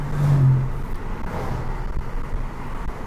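Steady low engine rumble from inside a moving car as the engine accelerates, with a brief stronger hum near the start and road noise continuing throughout; no voices.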